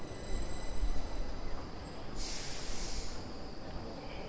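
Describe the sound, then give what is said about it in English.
A high-speed train in Sweden, travelling from Gothenburg to Stockholm, rolls along the tracks with a steady low rumble, a brief airy hiss swelling in the middle before the constant rolling drone continues. No one speaks. “Now I was boarding a high-speed train.”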